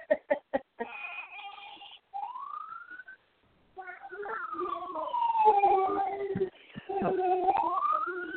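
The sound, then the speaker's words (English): A toy police car siren wails with rising and falling electronic tones, preceded by a few sharp clicks, with voices and background noise mixed in. “I have to grab that police car that Jackson has in the background”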